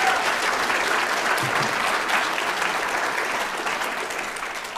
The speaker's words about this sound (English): So I applaud you. But right now, I want you to applaud yourselves for the amazing, amazing work that you all are doing.